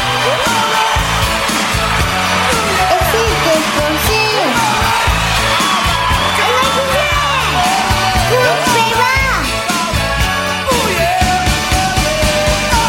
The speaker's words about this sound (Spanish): No, no mandes aplauso, José, no me sirven tus aplausos.